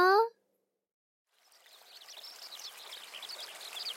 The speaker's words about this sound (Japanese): どうじゃ？綺麗な小川にのどかな風景。